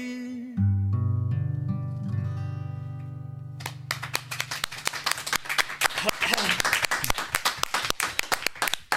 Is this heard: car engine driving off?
no